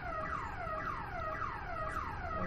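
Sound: alarm going off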